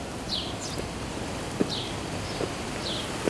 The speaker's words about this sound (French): Mais pour l'instant, départ pour le célèbre village de Collioure. L'air de la Méditerranée, le vent qui nettoie le ciel.